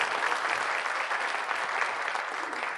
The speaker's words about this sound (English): Give a mannequin mummy a round of applause.